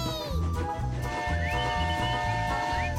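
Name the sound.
steam locomotive whistle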